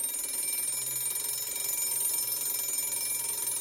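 A school bell rings in the preschool section, continuously for the whole stretch, a bright, shrill, metallic clatter held at a steady loud level with no pauses and no voices.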